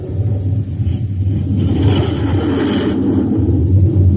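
jet fighter taking off

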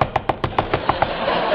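knocking on a door

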